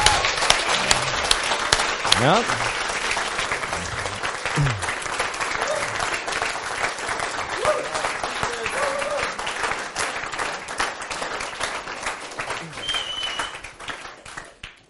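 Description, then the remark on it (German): Sustained audience applause, a dense steady crackle of many hands clapping for about fifteen seconds, with a few faint voices and a brief word spoken over it before it tapers at the end, given as thanks to people who led youth groups. “Und ich finde, einen richtigen Applaus.”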